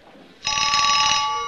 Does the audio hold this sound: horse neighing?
no